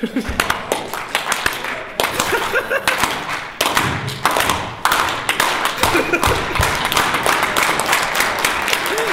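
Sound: audience slow clap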